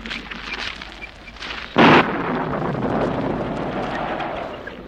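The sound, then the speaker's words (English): A thunderstorm in the mountains: steady gusting wind roars throughout, broken by one sudden, loud crack of thunder near the start that gives way to a long, low rolling rumble. No voices. “Oh, look below. The chasm. If we should lose the road. The storm's coming, Nadia.”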